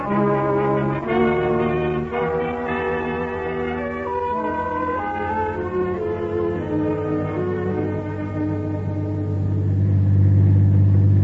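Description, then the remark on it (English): The engine of a black Ford sedan drones steadily at a low pitch, mixed with sustained tonal sounds, then swells louder and rougher near the end as it revs. No one speaks. “Get out an alarm right away on this car. Black Ford Sedan.”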